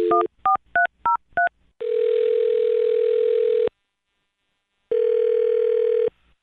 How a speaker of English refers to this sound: Well, I'm gonna dial her phone number right now and see if we can get her on the phone.